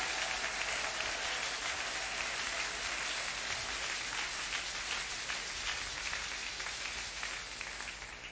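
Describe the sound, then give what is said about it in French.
An audience applauds the Bible words just read, in a dense, steady wash of clapping that holds for about eight seconds and eases off slightly at the end, with no voices over it. “Ces paroles méritent que nous acclamions, que nous applaudissions.”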